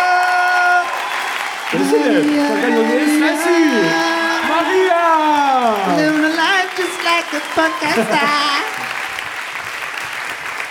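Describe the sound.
Loud, sustained clapping from an audience fills the whole stretch, with several voices whooping and cheering over it in long, swooping calls that rise and fall in pitch.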